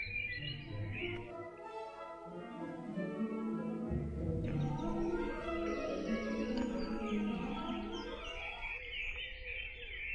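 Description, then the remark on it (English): A dense dawn chorus of many birds singing at once, their overlapping calls and trills forming a steady, continuous wall of song with no voices. “I think the answer is Dawn Chorus, would be my guess, which I can really hear now.”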